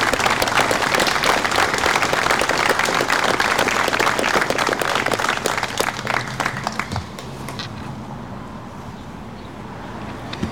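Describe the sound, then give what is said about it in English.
A crowd applauds the promotions as they are being seated, with dense, loud clapping that holds steady for about seven seconds, then thins out and fades to a low murmur. “So as they're being seated, if we can give one more round of applause for all of our promotions.”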